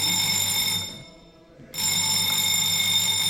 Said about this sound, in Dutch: Telefoon gaat hierover. Ja. Op het moment dat de telefoon ging in deze cellencomplex, sprong iedereen op en wist dat er iets zou gebeuren.